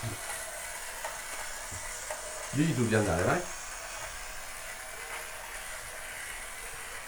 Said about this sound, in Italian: Visto come va il treno adesso?